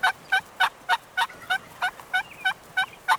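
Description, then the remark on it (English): A male turkey (tom) gobbles in a rapid, rubbery burst of about a dozen evenly spaced gurgling notes, loud with no talking, calling to nearby hens and warning off other toms during the spring mating season. “That rubbery, gurgling sound is his way of telling nearby hens that he's eager for company.”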